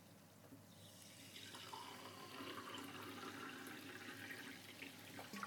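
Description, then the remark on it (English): Sparkling water pours steadily into a glass, a continuous fizzing, splashing rush that swells after the first second and holds for several seconds, with no voices. “Now we have... fizzy water.”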